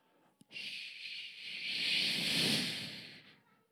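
A quick click, then a loud, steady jet shush: a bright, airy hiss that swells over about three seconds before tapering off, with no talking.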